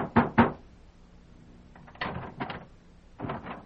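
Heavy fists pound on a wooden door in separate bursts of two or three loud, booming thuds, with short pauses between them and no voices.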